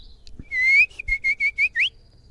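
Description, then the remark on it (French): A person whistles an imitation of a nightingale's song: a long rising trill followed by a quick series of five bright, chirping notes and a final upward sweep, clear with no talking. “Et le rossignol aussi.”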